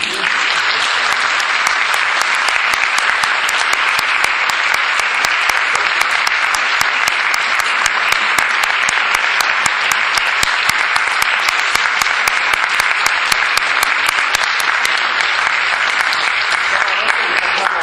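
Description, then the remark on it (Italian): Sustained audience applause for a singer after her performance of a Bach piece, a dense steady patter of many hands clapping at an even loudness for the whole stretch, with no voices rising above it. “Ecco perché dico che è stata doppiamente brava, e quindi direi che merita un altro applauso.”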